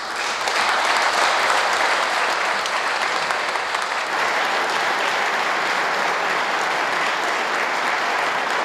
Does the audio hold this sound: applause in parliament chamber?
yes